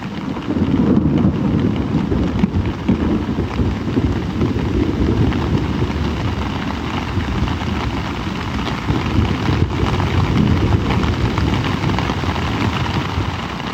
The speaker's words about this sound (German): So um 2 Uhr nachts krachte da ein Gewitter vorbei. Nicht direkt über uns, aber doch schon ziemlich nah.